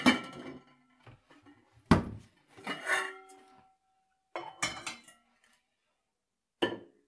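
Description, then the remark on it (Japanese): A metal cooking pot is lifted and handled with several clanking knocks and scrapes, followed by a brief lingering ring and a final sharp clank after a pause. “よし、じゃあお鍋、どれ、これだ。”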